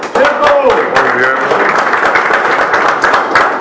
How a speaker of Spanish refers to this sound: Muy bien. Realmente los jóvenes merecen un aplauso.